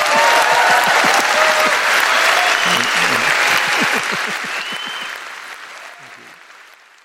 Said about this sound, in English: Please give Terry Gilliam a warm round of applause.